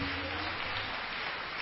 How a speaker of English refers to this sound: Hallelujah. Clap your hands now for Jesus. Clap your hands for Jesus.